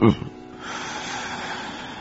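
A quick, sharp burst of air through the nose, then a long, steady, breathy exhale hissing on for over a second, as a person forcefully exhales to get all the air out during a breathing exercise.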